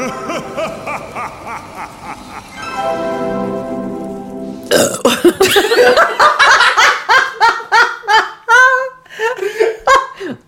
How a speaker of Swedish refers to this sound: Men det är så roligt att du rapar liksom som en riktig kar.